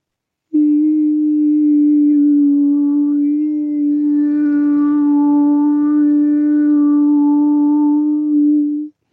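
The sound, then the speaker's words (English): A single voice demonstrating a coherent, stable vibration holds one steady, mid-pitched vowel tone for about eight seconds, loud and unbroken, its overtones shifting slightly as the vowel colour changes before it stops abruptly. “Whereas coherent, stable vibrations are like the vowels, like this.”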